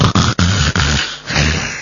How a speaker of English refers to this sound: Oh. Can you hear the snoring in the background? Can you hear the heavy breathing?